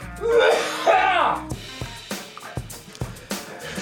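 A strained, wavering vocal groan gives way to a string of sharp, hacking coughs, about five or six bursts in quick uneven succession, fairly loud.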